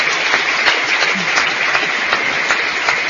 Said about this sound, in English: David Ray Griffin at Broad Lake Theater in Oakland, getting a standing ovation from about 800 people here, over capacity crowd.